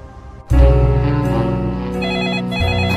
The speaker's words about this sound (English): The phone's ringing, Mr. Gently. Answer it, please, Miss Pierce.